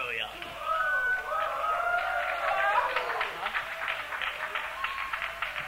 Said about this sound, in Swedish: Det är tyvärr våran sista låt. Och hur mycket ni än applåderar så kanske vi spelar extra nummer.